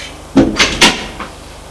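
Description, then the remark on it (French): A woman closes an apartment door after entering: a quick series of solid knocks and rattles as it swings shut and latches, followed by a faint final tap, with no voices. “Ferme la porte.”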